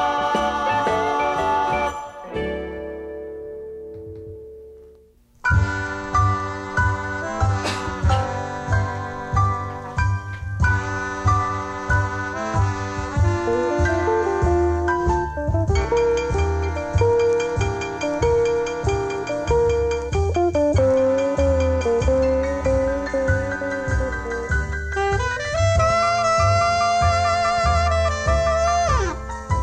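An upbeat rock and roll Christmas song plays, with a steady driving beat, bright chiming tones and a sung melody. It opens with a short fading chord before the full band kicks in loudly.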